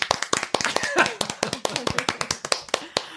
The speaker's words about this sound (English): Or no, it should be Stanislav Petrov, you get the big clap.